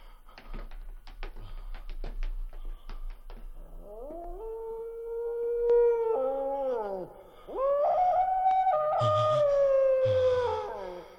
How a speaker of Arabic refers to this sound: إنه كلب، إنه كلب.